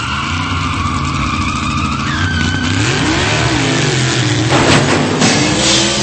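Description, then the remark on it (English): A motorcycle engine revs loudly as the motorcycle is driven up an escalator to the third floor, its pitch climbing and surging over a steady roar, with brief sharp squeals breaking through toward the end. “He wasn't going to drive a motorcycle up an escalator, was he?”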